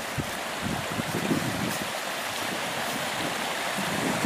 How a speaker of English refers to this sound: You can see this creek is really, really deep right here. And the ground is pretty saturated.